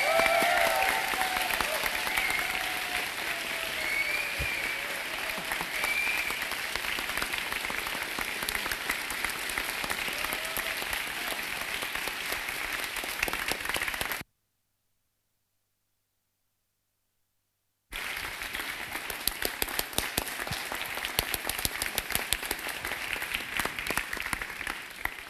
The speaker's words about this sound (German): Ihr glaubt, ihr müsst nicht nach Hause gehen, wenn ihr nicht aufhört zu klatschen, aber es ist leider vorbei.